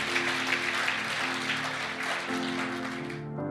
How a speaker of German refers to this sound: Wollen wir mal den Herrn Applaus geben, Jesus, ihm die Ehre geben dafür.